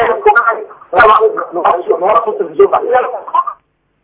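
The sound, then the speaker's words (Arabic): Television audio from a caller's TV coming through a phone line during a call-in broadcast: thin, muffled, band-limited voices chattering steadily for a few seconds before cutting off abruptly into silence. “نوقف صوت التلفزيون معلش لو سمحت.”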